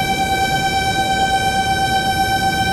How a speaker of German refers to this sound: Etwa in der Mitte des Weges zwischen dieser Pfeiftafel und dem Überweg muss nochmal ein Pfeifsignal abgegeben werden. Wenn dieses Zusatzschild nicht an der Pfeiftafel wäre, dann müssten wir nur einmal pfeifen.